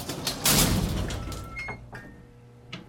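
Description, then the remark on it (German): The door of a cramped cabin slides shut with a broad, rushing thud near the start, followed by a fading rumble, faint mechanical rattles and a brief click near the end. “Futaba führte sie in eine beengte Kabine und schloss die Tür hinter ihnen.”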